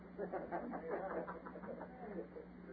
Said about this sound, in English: Oh, birds.